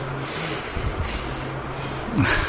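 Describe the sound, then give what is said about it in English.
A person imitates anulom vilom (alternate-nostril pranayama) breathing, making steady, forceful nasal inhales and exhales with a breathy, snort-like hiss that grows louder near the end. No words are spoken. “He's just, he's not going, anulom, vilom.”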